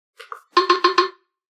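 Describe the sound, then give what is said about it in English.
Four quick, evenly spaced low-pitched electronic knock tones from an audiobook player, signalling that its sleep timer has been deactivated, each with a buzzy harmonic ring, preceded by a couple of faint short blips. No one speaks. “Pressing it one more time gives us 4 lower-pitched knocks to indicate that the sleep timer feature is now deactivated.”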